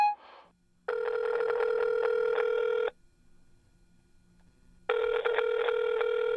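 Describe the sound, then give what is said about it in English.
A phone ringback tone from an outgoing call to a girlfriend's phone: two long, steady electronic ring bursts about two seconds each, separated by a silent gap, clear, preceded by a brief dialing beep. “Let me call my girl phone call.”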